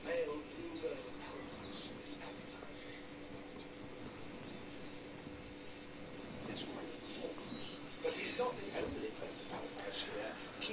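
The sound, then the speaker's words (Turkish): A bird makes courtship calls during a mating-season dance display to attract a female. Short, repeated chirps and coos ring out over a steady background hum, moderately loud, with a few sharper bursts toward the end. “Yine başka bir kuş türü var. Bakın çok enteresan danslar yapıyor. Çiftleşme döneminde.”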